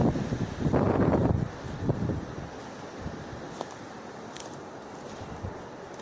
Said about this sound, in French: C'est bien la première fois que le vent souffle aussi fort et aussi longtemps. Pourquoi est-il si furieux? Quel message essaye-t-il de nous faire passer à travers son langage sifflant?